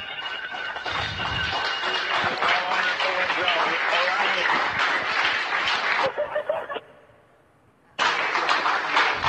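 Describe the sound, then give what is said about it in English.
A roomful of people cheer and clap in a loud, continuous roar of voices as Starliner astronauts Sunny Williams and Butch Wilmore arrive at the space station. The noise drops briefly near the end before surging back just as strongly. “Lots of cheering here in the room.”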